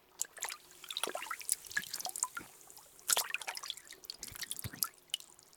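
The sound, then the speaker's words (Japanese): Hot spring water is poured over the ear to rinse it, a steady stream of splashing and trickling with scattered bright drips and crackles, fairly quiet, with no voices. “お湯でお耳を流しておくね。”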